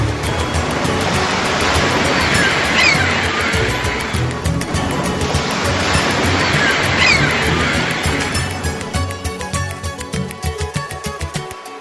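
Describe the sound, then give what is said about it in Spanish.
Sea waves crash against rocks in two big, rushing surges a few seconds apart, each washing back before the surf settles into a quieter, choppier churn. No one speaks. “Contemplo el mar y no me muero”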